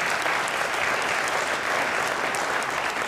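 A crowd applauds steadily, a dense wash of many hands clapping at once, fairly loud and sustained without any voices breaking through.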